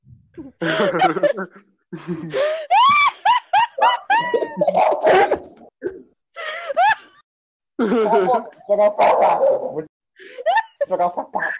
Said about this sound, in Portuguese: É uma cachorrada latindo. É o meu áudio, deixa eu sair daqui. Ele não, gente, ele foi embora. Cala a boca agora. Que meus cachorros não querem calar a boca.